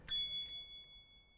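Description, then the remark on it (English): A smiley bicycle bell that came with an ice cream green bike rings twice in quick succession, two bright metallic dings whose high, clear tone lingers and fades slowly, with no one talking. “My bicycle bell came with my bike, which is an ice cream green.”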